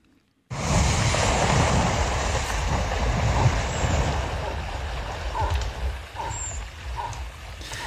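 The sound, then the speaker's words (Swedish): Three moose plunge into water one after another in a film, making loud, sustained splashing and churning that starts abruptly and continues, with no talking. “Och där på Naturmorgons hemsida och sociala medier så kan du också se en film där tre älgar plumsar ner i vattnet efter varandra.”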